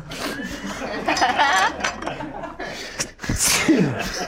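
sneeze

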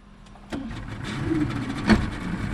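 small motorboat engine running

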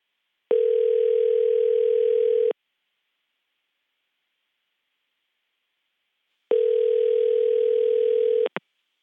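outgoing phone call ringing

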